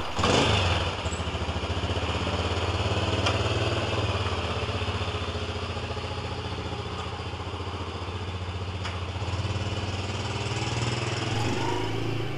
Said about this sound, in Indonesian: Motor distarter lan dilakokake tumuju panggonan pentas.